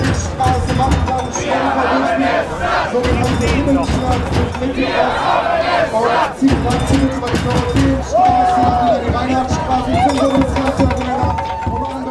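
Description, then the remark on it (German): A dense street crowd of protesters drawing attention to bee deaths murmurs and shouts continuously on a cold day, many voices overlapping into a loud, steady roar, with occasional raised calls and a sustained tonal cry standing out. “Ich bin zum Beispiel hier, weil ich mich freue, dass ganz viele Leute auf der Straße sind, um auf so ein Bienensterben zum Beispiel aufmerksam zu machen.”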